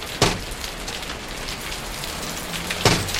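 Steady, hissing rain of a thunderstorm pours down without a break, with two sharper splashing hits standing out near the start and end. No thunder rumbles, and no one speaks.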